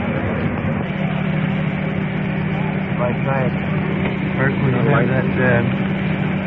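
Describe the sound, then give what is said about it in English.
A rescue truck engine runs steadily throughout, a loud, low droning hum with a constant tone, while rescuers talk over it in the second half as they give oxygen to a young woman. “Rescue truck turned down a little bit.”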